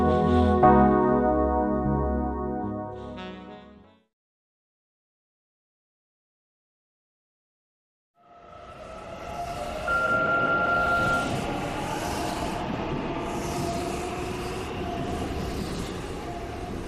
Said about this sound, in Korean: 아이들이 마주보고 앉은 지 얼마 되지 않아 기차는 경적을 울리며 서서히 움직였다. 그러다 곧 속력을 내 마을을 벗어났다.